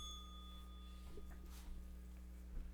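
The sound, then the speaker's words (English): A small bell rings once, its bright tone hanging and fading over about a second, then faint rustling and soft knocks follow. The whole thing is low in volume. “Where's my bell?”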